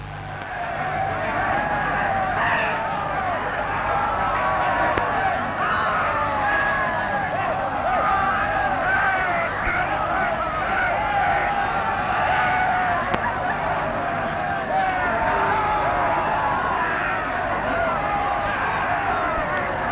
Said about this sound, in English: Anyway, I'll play you a quick snippet of the recording we got this afternoon of Bert Williams' so-called fans outside the studio while he was actually on the air recording.